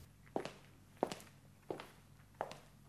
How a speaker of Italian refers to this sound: E allora all'improvviso udite un passo, un battere di tacchi che vi segue.